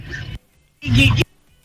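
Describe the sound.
Two short bursts of a raspy, buzzy Donald Duck cartoon voice squawking, fairly loud, separated by a brief pause.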